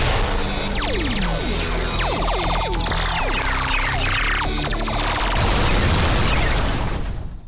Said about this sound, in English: The show so badass, we don't need lasers and explosions. But we got them anyway.